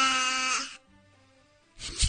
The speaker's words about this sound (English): Goat. That's a baby. That's a baby. Yeah. That's a baby cooing. It's pretty.